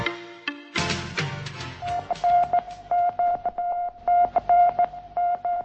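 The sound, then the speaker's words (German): A monotonous radio beeping signal from a Soviet satellite: a single steady tone pulsing in short, evenly spaced beeps, preceded by a brief burst of crackly, cluttered noise. “Vor etwas mehr als 50 Jahren versetzte ein eintöniges Piepsen die westlichen Demokratien in Aufregung und die kommunistischen Staaten in Verzückung.”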